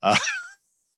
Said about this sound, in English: Oh, look, my dogs are barking.